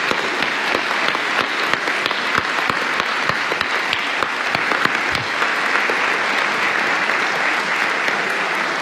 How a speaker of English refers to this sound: Now, a rousing hand of applause for these individuals.